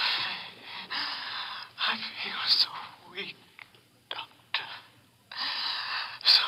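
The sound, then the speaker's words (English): A patient undergoing heart surgery gives a series of harsh, breathy gasps, coming in uneven bursts with brief pauses between them, like someone struggling for air. “He's gasping. He's weakening.”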